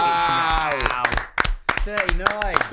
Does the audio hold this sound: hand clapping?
yes